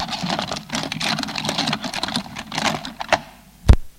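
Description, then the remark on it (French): Ballpoint pens of all kinds and felt-tip markers clatter and rattle as someone rummages through a desk drawer, a busy stream of light clicks for about three seconds, ending with one sharp knock. “Il y a dedans des stylos à billes de toutes sortes et des feutres.”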